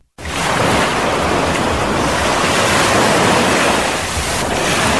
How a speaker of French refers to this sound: Comme chaque jour, Grand Bassam est bercé cet après-midi par le bruit des vagues qui s'échouent sur le rivage.